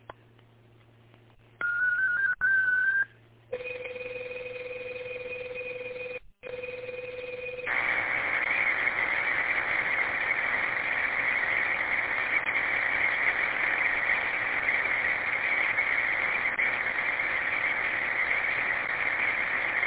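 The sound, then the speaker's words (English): Digital radio data transmission of a short 32-second practice message from station KGTC: a few short steady tones, a pause, and a held lower tone, then a loud, continuous buzzing, hissy data signal running without a break to the end. No voices. “This one's going to be a short one for 32 seconds, and it's basically what I just said, but again, we're just practicing sending digital stuff. Stand by for digital traffic.”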